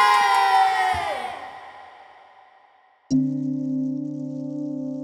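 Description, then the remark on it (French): A loud burst of crowd cheering and shouting, the clamor of the crowd resonating to the depths of a tree, fading away over about three seconds, followed by an abrupt, steady low sustained musical tone. “Les clameurs de la foule résonnèrent jusqu'au fin fond de l'arbre.”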